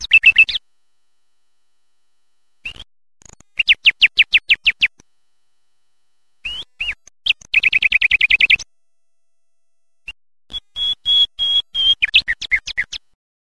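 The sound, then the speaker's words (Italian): A nightingale in a mountain nature reserve sings clear phrases of rapid repeated notes and buzzy trills, each burst separated by short silences, with no other sounds around it. “L'usignolo.”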